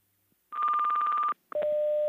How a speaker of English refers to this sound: At the tone, 0 hours, 34 minutes, Coordinated Universal Time.